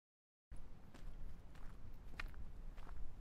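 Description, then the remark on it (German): Slow, crunching footsteps trudge through deep snow on a walk to Buchenwald on 15 January 2020, each step a soft muffled crunch in a steady walking rhythm, with no voices. “Zwölftausenddreihundertfünf Schritte.”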